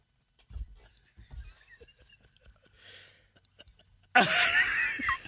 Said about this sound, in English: All that snorting and shit? All that damn snorting, man.